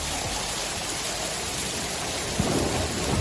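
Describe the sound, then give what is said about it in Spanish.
Heavy rain pours down steadily in a dense, hissing wash during a night storm over Toledo and Sonseca, with a low rumble of thunder rolling in near the end; the rain caused flooding and fallen branches and trees. No voices are heard. “No te asustes porque ahora luce el sol, pero anoche estará la banda sonora en Toledo y sobre todo en Sonseca, una lluvia que provocaba inundaciones en esta localidad sonseca y también caída de ramas y árboles en la capital”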